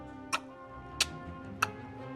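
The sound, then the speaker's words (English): A clock ticks three times at a steady, even pace, each tick crisp and sharp, over a soft sustained tonal hum in the background. “a ferocious crocodile whose stomach ticked and talked from the sound of a clock he swallowed long ago.”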